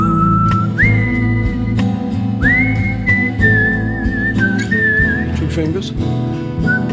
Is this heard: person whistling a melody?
yes